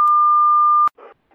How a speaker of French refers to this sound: Je ne suis pas là pour l'instant. Laissez votre message. Après le bip sonore.